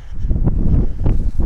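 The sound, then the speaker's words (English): Steady low rumbling wind buffets the microphone outdoors out in the open, a loud, continuous roar with brief gusty surges and no voices. “It's windy right there out in the open.”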